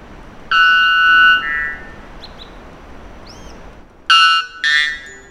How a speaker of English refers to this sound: This unpleasant noise, or rather song, of the bellbird is the loudest ever documented bird call, when the volume isn't turned down for podcast purposes.